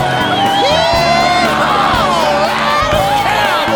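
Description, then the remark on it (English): A large crowd at a car race cheers loudly and continuously, many overlapping voices shouting and whooping together in a dense, excited roar that stays strong from start to finish. “Crowds cheering, packs on the speed, up in the back.”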